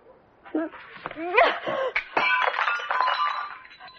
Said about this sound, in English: See what you made me do? I smashed the teapot. It was Mother's. She used to make tea in it.